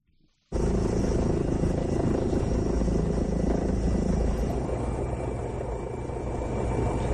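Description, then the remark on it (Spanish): A Guardia Civil helicopter searching the area near Ventrosa, Spain, for a missing woman cuts in abruptly and holds a loud, steady roar, its rotor thudding in a constant rhythm overhead. Continuous, with no voices. “Rastreaba la zona el helicóptero de la Guardia Civil.”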